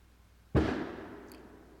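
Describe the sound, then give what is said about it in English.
A single firework bangs outside, a sharp boom that rolls off into a lingering, echoing tail over about a second, with no talking. “I hope y'all don't hear those fireworks, because I can hear them in my headphones.”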